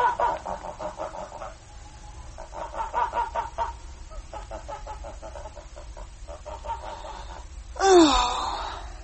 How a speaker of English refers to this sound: I see we are back with the birds again. Your 6 geese a-laying have just arrived, and are happily doing so for all they're worth.